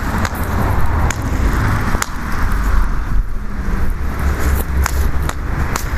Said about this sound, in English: Oh. I thought that car was slowing down. Nope. Another car coming down the street.